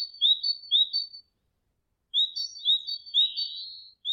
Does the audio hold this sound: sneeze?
no